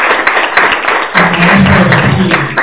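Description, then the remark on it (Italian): An audience applauds steadily, a dense wash of many hands clapping that holds at an even, fairly loud level throughout, with a low hum of voices rising beneath it partway through; the applause is for journalist Tullio Garbato at an event on a cold October Sunday. “E mi sollecito ancora, se mi permettete, un applauso a Tullio Garbato.”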